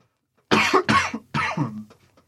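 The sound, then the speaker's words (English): A close, harsh fit of coughing: about four rough, chesty coughs in two quick pairs, loud and raspy, with a short pause between them and no talking. “Talk over me coughing, Jesus.”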